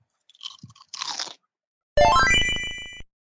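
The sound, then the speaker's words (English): A few crisp crunches of a snack being bitten and chewed during a break, followed by a brief bright electronic jingle with a rising run of tones. “We got to take another crunch break.”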